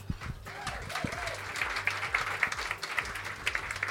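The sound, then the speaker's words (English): A crowd bursts into steady applause to welcome a guest, many hands clapping in a dense, crackling patter that holds at an even loudness throughout, with a brief voice or cheer rising near the start. “So I'm so excited to give him a warm round of applause”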